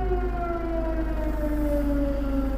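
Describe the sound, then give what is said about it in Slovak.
Air raid sirens wail steadily in Kherson, Ukraine, their long, slowly falling tones overlapping against a low background rumble, with no voices present. “Vítie sirén.”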